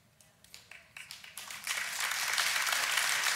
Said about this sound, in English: Thank you, Mom, for getting the clapping started. I always love it when Mom gets the clapping started, right?